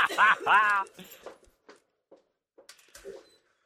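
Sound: dog barking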